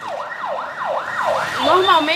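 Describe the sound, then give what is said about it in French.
An ambulance siren wails in quick rising-and-falling sweeps, loud, growing stronger toward the end as a second overlapping siren tone joins in, in the Palaisopolis favela during the Covid pandemic. “En temps normal, les ambulances ne rentrent pas ici.”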